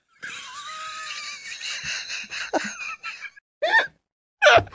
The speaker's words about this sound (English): That sounded like a cow over there. What the fuck was that? I hear my dog every once in a while, but it sounded like a cow in there. That was a good one. It must have been your chair, but it sure sounded like a cow.